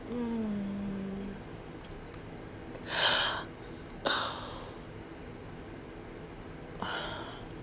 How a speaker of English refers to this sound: I'm really not tired. I think that's just boredom. Yawning.